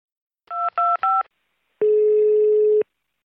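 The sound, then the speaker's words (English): Three quick, loud touch-tone beeps of a phone keypad dialing a 911 emergency call, followed by a single longer, steady, lower-pitched tone. No one speaks. “Listening to 911 calls.”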